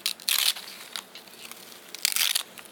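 Crisp crunching of Hyogo nori, a shiny, chewy dried seaweed from Hyogo, Japan, being bitten, with two louder bursts at the start and end and lighter crackles between, no voices.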